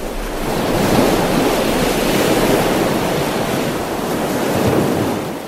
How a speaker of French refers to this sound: En dehors, les vagues arrivent jusqu'aux vitres. Elles frappent violemment.